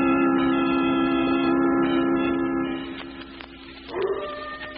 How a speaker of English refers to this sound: Get that coyote off in the hills.